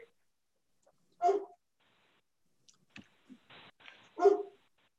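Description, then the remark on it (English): A dog barks twice, two loud, sharp barks about three seconds apart, with a few soft clicks and brief rustling noises between them and no talking. “And I'm going to take 1 second to call my dog and I will be right back.”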